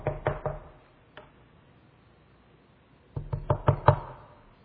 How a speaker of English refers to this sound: And there he is. He knocks on the door.